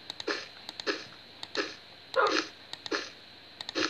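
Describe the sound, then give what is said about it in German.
A dog barks repeatedly in a steady rhythm, about six short barks spaced evenly apart, fairly quiet, with a few sharp clicks between them and no talking. “Hört auf zu bellen.”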